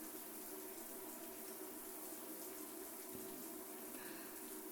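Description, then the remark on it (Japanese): Water runs and splashes steadily, rinsing soap foam away, a continuous rushing wash with no pauses and no voices. “ジャバジャバ、ジャバジャバ、泡をどんどん洗い流して。”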